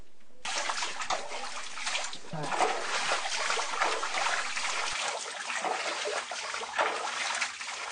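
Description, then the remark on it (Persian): Water from a stream rushes and splashes steadily in a continuous, fairly loud flow, with a slightly echoing, enclosed quality. The stream runs through an old underground passage beneath a house in the town of Khoru, reached by stone stairs. “در آنجا نهر پر آبی که جاری است دیده می‌شود.”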